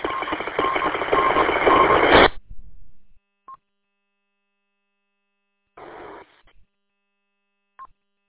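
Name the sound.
radio alert tones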